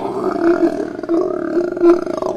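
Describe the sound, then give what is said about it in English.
A sea lion roars in a long, throaty, rumbling call that pulses and swells for a couple of seconds, loud, with no talking over it. “And he also does kind of a more roar type vocalization.”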